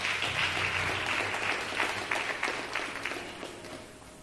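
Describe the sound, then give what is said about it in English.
A church audience stands and claps their hands in praise to God, a dense, steady burst of applause, many overlapping claps blending into a continuous crackle that eases slightly toward the end. “Let's give God a hand clap of praise as we stand to our feet.”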